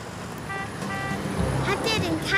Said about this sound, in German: Zwischen all den Autos so mitten auf der Straße? Ich denke nicht. Seine gelbe Weste ist recht gut zu sehen und seine Trillerpfeife ist weit zu hören.